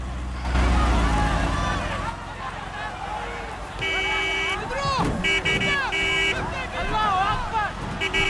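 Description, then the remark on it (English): A dense crowd of protesters outside an embassy's gates shouts and clamors with raised, overlapping voices while a car engine rumbles low underneath as the car drives off, slowly pushing through the mass of people crowding around it. “The gates open and they drive off, slowly pushing through the mass of people crowding around the vehicle.”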